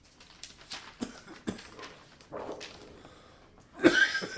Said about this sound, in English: Man, I hate this. If I'm sitting outside, I'm fine. When I come inside, I start coughing.